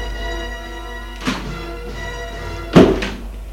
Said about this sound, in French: La porte s'est ouverte.